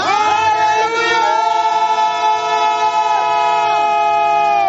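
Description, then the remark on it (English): A crowd of voices shouting together in a loud, sustained roar, many overlapping pitches rising and falling without pause for nearly five seconds. “Some of you, as you are shouting, certain infirmities in your body will be leaving.”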